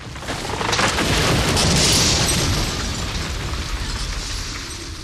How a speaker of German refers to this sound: Laut ist das Brechen des alten Astes. Mit seinem Fallen fällt auch der windschiefe, gelb beflechtete Mostbirnenbaum.